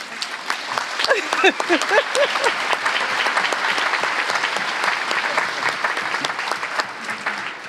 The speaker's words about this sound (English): Bravo. I think that result, we should applaud them now.